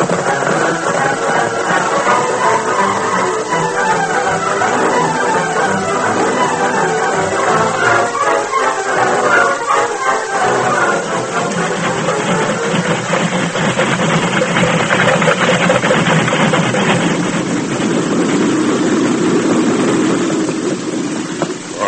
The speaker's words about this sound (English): until the engine and the freight cars have passed